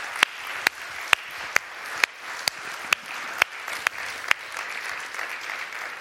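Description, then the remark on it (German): An audience applauds the sound technicians, video technicians and AV team steadily for several seconds, a dense wash of clapping with a few sharp, loud claps cracking through at a regular, almost rhythmic pace. “Gebt denen doch mal einen riesen Applaus.”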